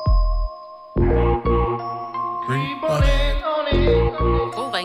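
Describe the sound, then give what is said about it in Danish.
A bright electronic phone ringtone melody plays loud, with chiming synth notes over a pulsing low beat, running steadily for a few seconds with no voices. “Ja, det er faktisk en ringetone.”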